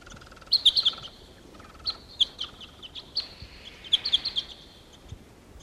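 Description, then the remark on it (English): Two wild birds sitting together in the top of a tree chirp in short, high-pitched bursts, a few quick notes at a time with brief pauses between, fairly faint over a low, steady background hiss. No one speaks. “Here's the wild bird. There are two together sitting in the top of a tree here.”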